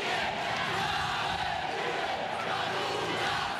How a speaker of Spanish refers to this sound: Casi al mismo tiempo que el prelado pedía no politizar los actos religiosos, al parecer, miembros de los colectivos, seguidores de Nicolás Maduro, interrumpieron el acto litúrgico con gritos e insultos.